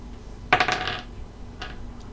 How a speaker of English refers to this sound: Okay, so I need you to roll me a dexterity check.